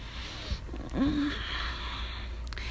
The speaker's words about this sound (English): My big, warm, strong man laying on top of you like this, feeling your chest rise and fall with your breathing. It's so calming.